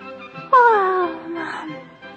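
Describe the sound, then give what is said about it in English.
A voice acts out the little prince's long, drawn-out yawn as he stands upright before the king: a sudden voiced onset that slides downward in pitch, then trails into a breathy, fading exhale. “So he remained standing upright, and since he was tired, he yawned.”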